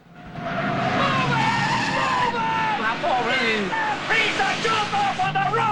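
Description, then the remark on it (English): Bond's car reverses at speed and turns around 180 degrees to chase after Scaramanga, its tyres screeching in long wavering squeals over a roaring engine, loud and continuous for several seconds. “Scaramanga takes a right and Bond reverses at speed. He turns the car around 180 degrees and chases after Scaramanga once again.”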